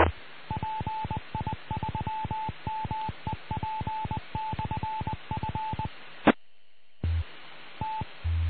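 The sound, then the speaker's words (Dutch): A rapid series of telephone keypad tones as a radio amateur dials his telephone check-in line to check for new messages, dozens of short evenly spaced beeps over a hissy, radio-like line, then a brief gap of silence before the line noise and a final beep return. “Ik ga eerst even naar mijn telefonisch inmeldpunt om eens te kijken of daar wat bijgekomen is en dan gaan we het bulletin doen.”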